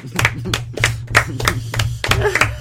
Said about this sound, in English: I want the last bit of the credits to end, and then it's got the post-credit scene that are so popular these days, and it's just one of the tree people furiously clapping as one of the dogs continually does backflips.